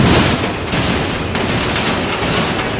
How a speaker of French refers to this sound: Pas de discours, pas de musique comme souvent dans les manifestations en Géorgie. Juste le bruit infernal d'activistes qui, avec des pierres, frappent mécaniquement sur les plaques de métal de protection placées par la police